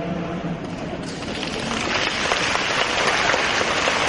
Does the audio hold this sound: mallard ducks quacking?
no